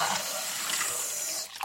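Water runs steadily from a tap with a bright, hissing splash, fairly loud, cutting off abruptly near the end. No one speaks.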